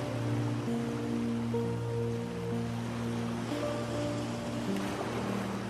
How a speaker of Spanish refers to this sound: La arena suave se extiende por toda una playa tropical, juntándose con las olas del mar que van y vienen en la orilla.